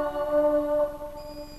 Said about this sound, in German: Oh, was für ein Echo. Hört ihr?